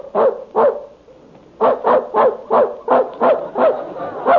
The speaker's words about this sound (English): There's that dog in the next room barking again. Kept me awake half the night.